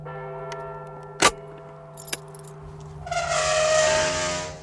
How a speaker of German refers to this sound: Die Turmuhr schlug Mitternacht, ein Kreuzchen schrie, ein Schlüssel drehte sich in einem alten Schloss.